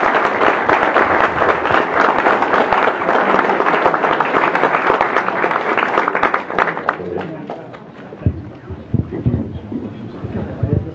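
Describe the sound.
A crowd applauds with thick, steady clapping for about seven seconds, then the clapping thins and fades as a man's voice begins speaking over the last few claps.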